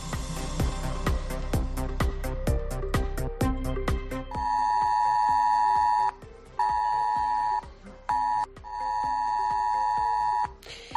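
A mobile phone emergency alert tone for a flood emergency drill, received around 9:15 in the morning: a quick run of rhythmic pulses, then a loud, harsh, steady tone that cuts off and returns in long bursts with a short blip between, heard alone.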